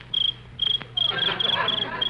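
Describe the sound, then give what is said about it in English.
A cricket chirps in shrill, high trills, two short bursts followed by a longer continuous stretch, clear over a faint low background hum, made by rubbing its hind legs together, in the country at night. “A cricket? You're yelling like that? Yes. That's the noise they make by rubbing their hind legs together.”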